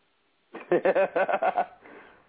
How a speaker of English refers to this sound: That was just me yawning.